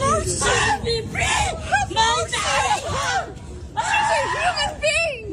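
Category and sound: human body sound, woman screaming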